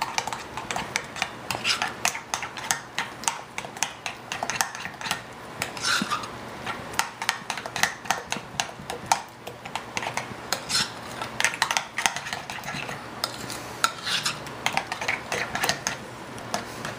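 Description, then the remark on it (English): Continuous stirring in a bowl as tomato paste is mixed into a chicken marinade mixture: a utensil repeatedly clicks and scrapes against the sides with a quick, irregular rhythm, with soft wet squelching underneath. Nobody speaks. “And then what we're gonna do is just gonna mix the tomato paste in our mixture here.”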